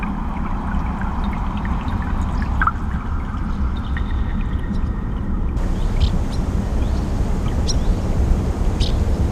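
The Gudenå river, broad and deep, flows slowly and heavily through valleys and forest in a calm stretch in late afternoon, its dense low rush and gurgle continuous throughout, with a few faint bird chirps scattered above the water.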